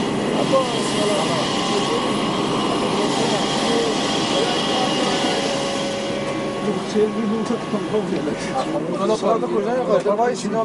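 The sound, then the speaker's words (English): Steady, broad engine drone fills the cabin of the Iranian president's airplane on a flight to the city of Yazd in central Iran, with constant hum and whine throughout, while voices talk over it near the end. “So I'm using my pass to get into the airplane.”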